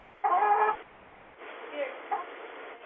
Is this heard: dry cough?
no